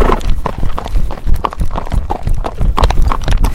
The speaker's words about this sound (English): Are we trotting?